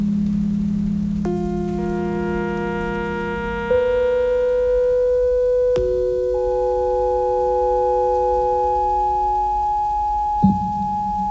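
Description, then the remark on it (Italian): Steady, pure electronic tones hold and stack into a layered chord, shifting pitch every few seconds over a low droning hum, with a faint click near the end. “In ogni caso il suono elettronico è proprio puro.”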